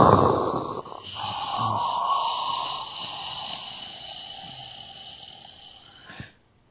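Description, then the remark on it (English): After a deep breath, a single long, forceful 'dragon breath' exhale rushes out, starting loud and breathy, then thinning into a sustained airy hiss before cutting off abruptly. “Lean back, close your eyes, take a deep, deep breath. Breathing out with a dragon breath, so it's a”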